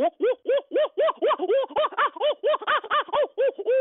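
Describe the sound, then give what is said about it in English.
A voice imitates a group of owls' frantic 'crazed monkey' call: a rapid, steady string of about four rising-and-falling hoots per second, loud and laugh-like, with no other talk. “I call it the crazed monkey call.”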